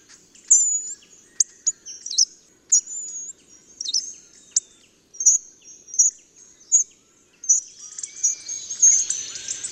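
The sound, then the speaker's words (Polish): Calm hawfinches sing, giving a steady run of thin, high chirps with almost no sharp syllables, and soft whistles like a penduline tit's contact call, at irregular intervals. The calls grow denser toward the end, with no other sounds or voices. “U spokojnych, rozśpiewanych ptaków ostrych sylab nie ma prawie wcale. Przewija się za to cichy gwizd, przypominający głos kontaktowy remiza.”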